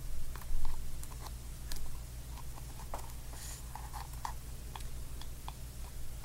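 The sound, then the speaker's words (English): Fingernails tap lightly on a hairbrush in Gentle Whispering ASMR's 2012 video 'Oh, Such a Good 3D Sound ASMR Video', in quick, irregular bursts of small clicks and patters, soft over a low steady hum, with no one speaking. “she is essentially just using her fingernails to tap a brush, a hairbrush, and it makes that sound.”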